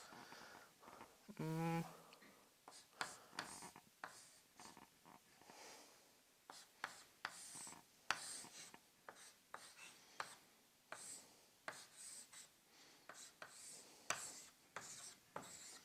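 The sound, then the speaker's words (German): A pen scratches across paper in irregular strokes, short bursts of scribbling and dashes repeating throughout, with a brief hum-like voiced sound near the start, as someone sketches a diagram of a lock cylinder with three pins. “Ja, ein bisschen ungünstig gezeichnet.”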